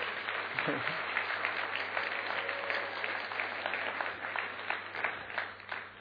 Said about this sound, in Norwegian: Og så er jeg gift med en fantastisk kone som gir meg anledning til å gjøre det. Så hun kan jo få en skikkelig applaus.